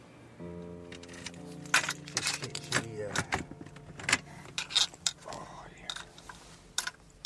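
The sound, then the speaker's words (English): A man opens the door of his mobile home: a run of sharp metallic clicks, rattles and clunks from the latch and frame, with a steady low hum underneath throughout. “opens the door of his mobile home.”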